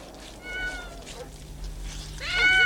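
A male cat with white paws meows twice, a shorter call early on and a louder, drawn-out one near the end, against a low background hum.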